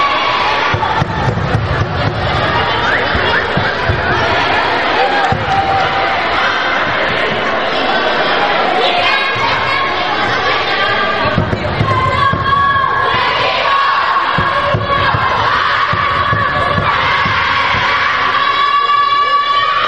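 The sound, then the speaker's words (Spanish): A women's team celebrates winning the championship, the Morrojable, in a sports pavilion: players shout and cheer, voices overlapping in a loud, continuous clamor for the whole stretch, with high-pitched yells and bursts of chanting rising above the din. “Ahí estaba ese grito de esas campeonísimas que ganaban ese campeonato, el Morrojable, el pasado jueves.”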